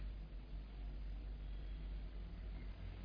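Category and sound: vehicle, distant road traffic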